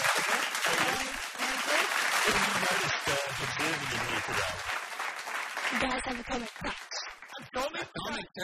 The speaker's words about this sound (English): Have you got some fake applause for yet another one of the Prime Minister's interrogators on Patterson Lake Primary School FM a few months ago?